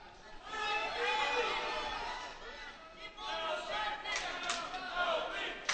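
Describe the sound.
The Burrell team bench at a wrestling match cheers an "LB" chant for their wrestler during the 215 bout, a group of voices shouting together in a loud, sustained chant, with crowd chatter and a few sharp bursts of yelling near the end.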